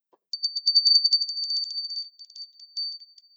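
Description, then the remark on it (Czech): A small Christmas hand bell rings rapidly and brightly, a quick jingling tremor of strokes that gradually loosens and thins out, heard alone with no voices. “Tak to bychom si mohli ještě dnes zacinkat na náš vánoční zvoneček, ne?”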